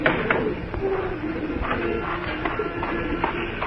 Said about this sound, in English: I was just feeding the pigeons.